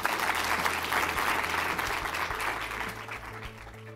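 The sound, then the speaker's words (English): An audience at a Washington Post Live program claps steadily for Sean Parker, a dense, sustained wash of many hands that holds at an even loudness for several seconds before easing off slightly toward the end. “Another round of applause for Sean Parker.”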